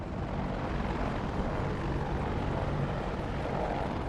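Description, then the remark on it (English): The Pope's helicopter idles as Bergoglio's car approaches it, its engine and rotor making a steady, dense roar with a faint rhythmic chop, constant and loud throughout with no voices. “Next, Bergoglio's car approaches the Pope's idling helicopter.”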